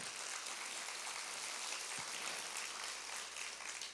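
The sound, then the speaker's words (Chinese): An audience applauds steadily for the whole stretch, giving the applause as glory to God. It is a dense, continuous wash of clapping at an even volume, with no voices rising above it. “我们把掌声荣耀归给神。”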